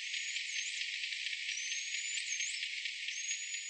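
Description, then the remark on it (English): A bottlenose dolphin, recorded underwater off the coast of Maryland, whistles in high, thin, looping tones that rise and fall several times over a steady hiss of underwater noise with faint rapid clicking throughout. “Now here's what a normal whistle sounds like.”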